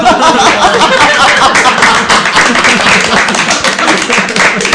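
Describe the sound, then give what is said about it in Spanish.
A crowd applauds steadily for several seconds, dense overlapping claps forming a loud, continuous wash of sound with no pauses. “Un aplauso para...”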